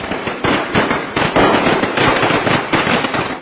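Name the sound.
firecrackers exploding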